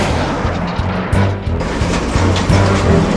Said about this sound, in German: Weiß glüht das Raketenrohr auf und mit rasender Geschwindigkeit schießt das Seymour-Auto durch die Nacht.